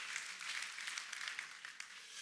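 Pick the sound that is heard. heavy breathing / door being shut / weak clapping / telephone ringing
weak clapping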